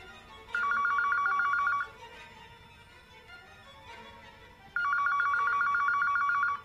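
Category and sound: household object, telephone ringing loudly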